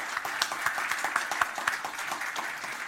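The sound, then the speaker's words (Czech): An audience applauds a panel participant from the Czech Society for Maintenance as the discussion closes, many hands clapping in a dense, crackling patter with a few sharper claps standing out, sustained at an even level with no voices. “za Českou společnost pro údržbu si určitě potlesk zaslouží za názory.”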